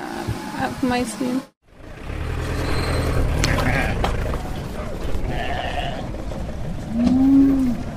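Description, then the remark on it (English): Sheep bleat amid a busy outdoor street market din in Gaza, where vendors offer sheep for the holiday, with a wavering cry at the start and a loud, drawn-out bleat near the end, over steady street and traffic noise. “In the streets of Gaza, there are some shops and vendors who offer sheep for the holiday.”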